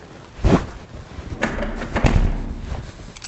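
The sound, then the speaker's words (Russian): A heavy, widened, fire-resistant door with extra soundproofing shuts with a deep, muffled thud, followed by a couple more low knocks and handling clatter, with a faint low rumble underneath and no talking. “То есть тут такие хорошие, прям мощные двери.”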